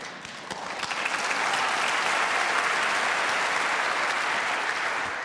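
An audience claps together in warm, steady applause after a piano performance, swelling over the first second and holding at a full, dense level throughout, with no voices or music over it.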